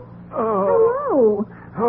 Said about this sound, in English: It sounds like someone groaning on the phone.